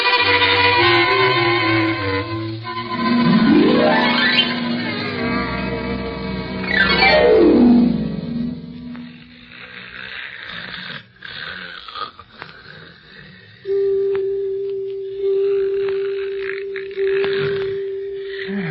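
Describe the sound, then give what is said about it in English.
Loud, exaggerated snoring from a sleeping man, with long wheezing breaths that sweep up and down in pitch, followed by a steady whistling drone. No one speaks. “Gee whiz, Barney can sure snore.”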